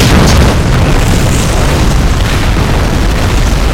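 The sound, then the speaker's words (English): A loud explosion hits at once and keeps rolling as a deep, heavy rumble that barely fades over a few seconds, with no voices present. “He was at the base of the wall when he heard the explosion.”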